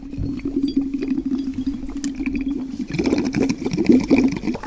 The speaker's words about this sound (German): Wir haben einen Strohhalm und einen Luftballon zusammengeklebt und den dann halt aufgeblasen. Und dann haben wir das Strohhalmende in ein Wasserglas gesteckt und dann hat es geblubbert.